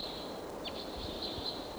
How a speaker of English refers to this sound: Oh, there's a bird up on the top of a tall pine, direction a ways away.